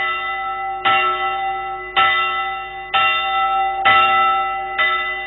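Church bells ring out in a steady sequence of five strikes about a second apart, each loud clang blooming into a long, shimmering resonance that overlaps the next, with no voices present.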